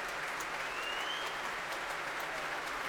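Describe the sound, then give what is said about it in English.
Sustained applause from a large audience at the Royal Albert Hall during the Proms, for Catherine Stott, Norika Ogawa and the orchestra after music by Malcolm Arnold conducted by Barry Wordsworth, a dense, steady wash of clapping filling the space at moderate volume with no voices standing out. “Barry Wordsworth invites the members of the orchestra to stand and take their applause too.”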